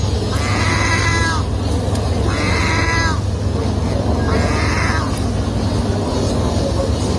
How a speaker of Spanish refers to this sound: Bueno, pues escuchad, por favor, las gaviotas que las puñeteras han aprendido a imitar a los gatos.